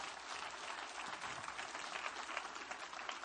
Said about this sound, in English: Come on, somebody, give a great clap offering.